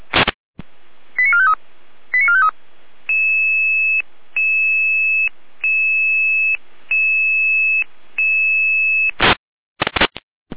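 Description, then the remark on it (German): Electronic radio alert tones from the emergency dispatch center in Jena, alarming units to a building fire in Gondorf, Saalfeld: bursts of noise, a few quick warbling chirps, then a steady series of sustained two-tone beeps with short gaps, ending in noisy clicks. No speech. “Die Leitstelle in Jena mit Alarmierung.”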